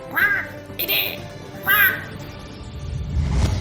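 Seagulls call three times in quick succession, loud, harsh, squawking cries, followed by a low rumbling background noise as the calls fade out.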